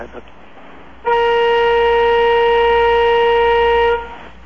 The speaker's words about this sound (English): Please sound the horn three times in rapid succession. Hold in the horn for 5 seconds.